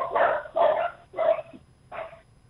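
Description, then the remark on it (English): Four sharp barks from two long-haired miniature dachshunds, evenly loud, spaced irregularly over a couple of seconds with a slightly longer pause before the last one; no one talks. “They are two long-haired miniature dachshunds.”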